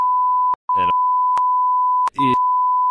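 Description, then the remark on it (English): A loud, steady high-pitched censor bleep runs the full length, cutting out twice for split seconds where brief fragments of a voice slip through before the tone resumes. “So just put a big beep in.”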